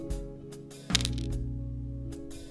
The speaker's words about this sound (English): I have some dice with me, and I'm going to see if the microphone can pick them up.